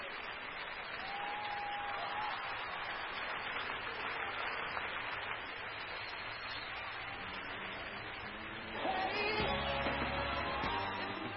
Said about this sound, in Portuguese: É, já começa com palmas, viu, Ana? São para mim, Omar, são para mim, desculpa, são para mim.